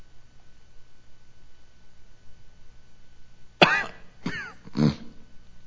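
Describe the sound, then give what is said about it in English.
After several seconds of near silence, a person coughs three times in quick succession, sharp, with the last cough a little rougher and deeper. “The sound of a cough, that's ….”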